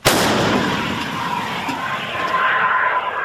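A Ukrainian self-propelled artillery gun on the front line fires a single powerful shot at a concentration of infantry: a sharp, loud blast followed by a long, broad rumbling roar that lingers for several seconds. No voices.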